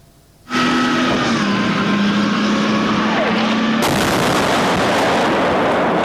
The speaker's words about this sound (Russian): В центре города не осталось ни одного уцелевшего здания. Взрывы раздаются круглосуточно.